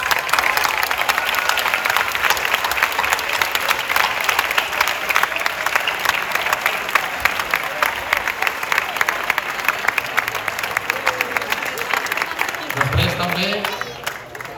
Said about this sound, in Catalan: M'agradaria fer un fort aplaudiment per tots nosaltres i pels gegants.